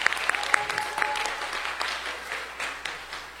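A group gives a special round of applause for the man who drove them there and back over the weekend, many hands clapping in a dense, crackling wash that holds at a fairly even level for a few seconds, with a brief high tone near the start.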